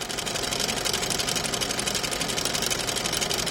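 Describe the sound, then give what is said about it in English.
An old film projector motor whirs into motion after the projectionist presses a button and the lamp blinks on. It settles at once into a rapid, steady mechanical clatter with a bright hiss on top as film runs through to a screen four stories tall. The sound is continuous and fairly loud, with no voices. “The lamp in the old projector blinks on, the motor fires up, and light streams through frames of film onto a screen four stories tall.”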